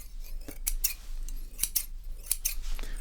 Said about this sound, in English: Okay, so if you want to listen to the sounds, okay, so very important scissors, those, and then with our traditional scissors.